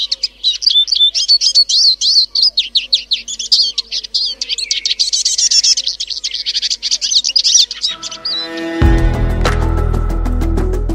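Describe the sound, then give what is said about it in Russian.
A Eurasian siskin sings a rapid, high-pitched twittering song, close and lively, for about eight seconds before music swells in and takes over. “Сегодня открывают программу «Чиж».”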